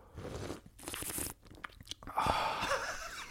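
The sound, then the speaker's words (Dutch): Loud, noisy slurping sips of coffee come in a few bursts of airy, hissing sound, with short pauses between them and no talking. “Het moest even voor de sound effect.”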